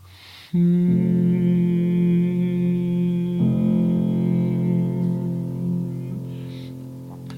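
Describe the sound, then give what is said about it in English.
A single voice hums a steady, sustained tone with a little air coming down through the nose. The hum starts abruptly, then slides to a slightly different pitch partway through and holds it to the end, fairly loud. “But that little feel of just a little bit of air coming down the nose as you start the hum.”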